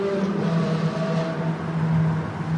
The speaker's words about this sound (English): He's got one more rev in him before we get out of this tunnel.